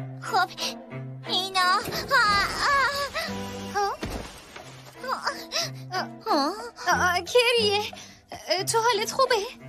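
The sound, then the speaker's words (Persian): A child, a sister, cries and wails in wavering, drawn-out bursts, fairly loud, with short breaks between sobs and a steady low tone sounding underneath. “چی شده؟ خواهر گریه.”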